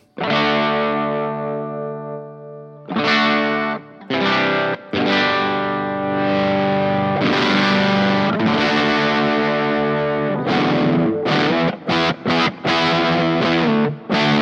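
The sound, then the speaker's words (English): Heavily processed electric guitar played through a custom-made effects pedal built in Los Angeles, with a thick, distorted, effects-laden tone, playing sustained chords and then choppy stop-start bursts near the end. Loud, with no talking. “There's so I have different tones that I go to, and I had this guy make me a pedal in LA, which is one of my main sounds.”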